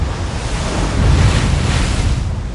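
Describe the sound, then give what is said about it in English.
Waves crash against a rocky coast beneath a castle in a steady, roaring surge, with a loud swell peaking midway and gusty wind noise blowing across the microphone; no voices. “Waves crash against the rocky coast beneath the castle.”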